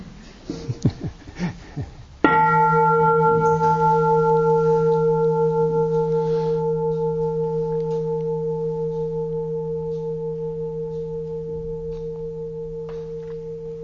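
A single meditation bell is struck after a moment of brief murmuring, ringing out with a rich, steady hum of layered tones that slowly fade over more than ten seconds.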